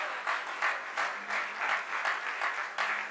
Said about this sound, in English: No, the way you are clapping, I don't understand.